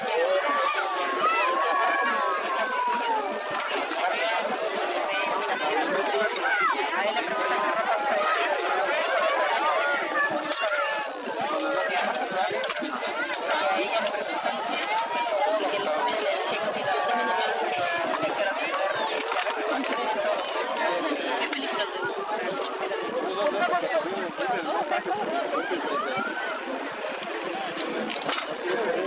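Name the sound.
crowd chatter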